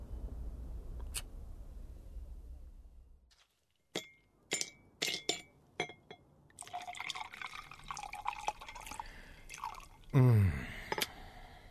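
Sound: ice clinking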